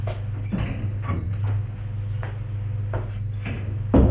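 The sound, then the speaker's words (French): A door off a hallway with a wooden staircase is opened into a kitchen, with a few soft knocks and handle clicks spread over several seconds, over a steady low hum, with a louder thump at the end. No one speaks. “Il va ouvrir la porte.”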